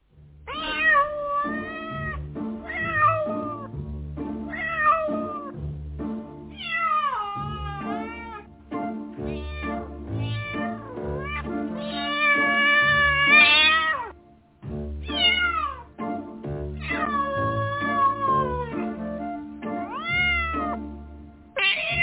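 A long run of cat meows in a recording played from SoundCloud, many rising and falling, some overlapping, repeating steadily over a low, sustained musical backing with no talking.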